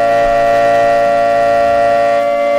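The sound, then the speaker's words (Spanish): A loud, steady alarm siren sound effect blares continuously, a sustained tone layered with bright harmonic overtones, holding its pitch without pause and with no voices over it. “¡Da la alarma!”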